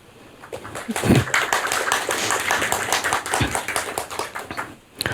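An audience breaks into steady applause, a dense crackle of many hands clapping that swells quickly, holds for several seconds, then dips briefly near the end before picking up again.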